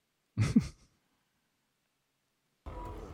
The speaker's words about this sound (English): And the breathing apparatuses are what we are supposedly hearing. It's an interesting way to say that.